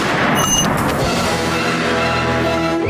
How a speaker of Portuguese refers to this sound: Brutus é atingido por um tiro e morre na hora.